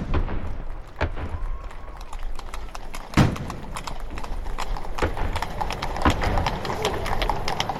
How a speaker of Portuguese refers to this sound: O dia 3 de maio até que começou em clima de festa. Uma salva de tiros anunciou a saída das carruagens reais de São Cristóvão e Dom Pedro foi celebrado por onde passou com aplausos da multidão.